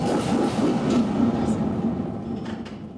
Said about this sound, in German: Das hier hat man früher ganz oft im Theater verwendet. Das nennt man ein Donnerblech. Das klingt nach Donner, ne? Ein bisschen nach Grollen.